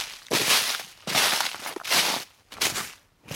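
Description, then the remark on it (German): Four steady, crunching footsteps on frozen, lightly snowy forest ground during a walk in the Eifel, each step a loud, bright crackle with short pauses between, no voices. “Ihr hört es vielleicht so ein bisschen knistern hier.”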